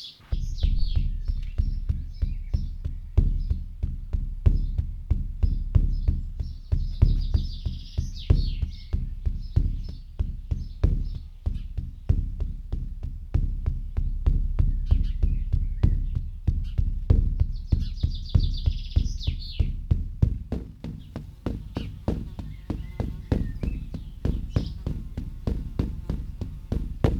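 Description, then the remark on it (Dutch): A deep shamanic drum beaten steadily in a fast, even pulse like a heartbeat, full-bodied, with occasional high chirping sounds drifting above the rhythm. “Het lijkt op de hartslag van je moeder. Zo primitief en diep is dat.”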